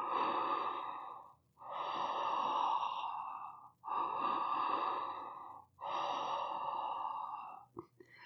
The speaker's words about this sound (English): Create a sound with the air rushing into and out of your mouth, a sound like the ocean waves or maybe the wind in the trees, like this.